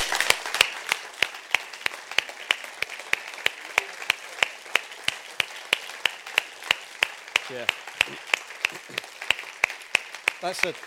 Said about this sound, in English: So let me just commend them to you, and let's applaud them.